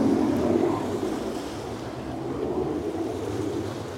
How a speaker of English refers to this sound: So we do have the fighter jets that are flying overhead nonstop, definitely making a lot of racket over the water here at the ocean.